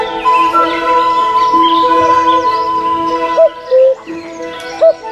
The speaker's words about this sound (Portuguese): Quase 200 espécies de pássaros vivem em Xambó.